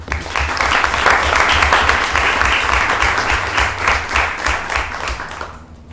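A crowd applauds a student being recognized as an AP scholar, a steady, dense wash of many hands clapping at a fairly loud level for several seconds before it begins to thin out at the end.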